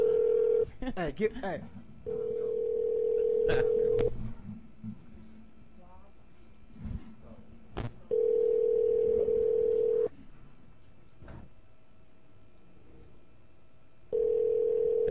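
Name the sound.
telephone call ringing out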